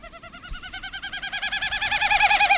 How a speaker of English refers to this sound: It's the winnowing sound of the Wilson's snipe. Look up and you may see the bird itself.